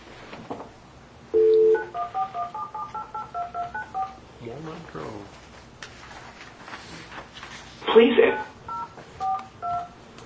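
A rapid series of touch-tone beeps as a phone number is dialed, each short tone crisp, with a brief burst of noise midway and another short run of tones near the end.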